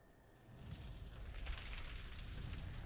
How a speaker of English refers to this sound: Oh, please, save your posturing. Crackling the elements in the palm of your hand doesn't scare me.